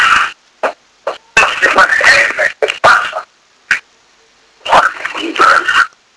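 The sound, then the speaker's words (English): Three dogs fight in a sudden, chaotic burst of snarls, yelps and growls, coming in a few loud clusters separated by short pauses. “Sorry, I have a dog issue here. I've got three dogs and yeah, there was a bit of a fight there.”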